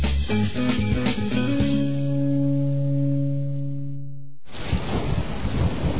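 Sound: summer rain with thunder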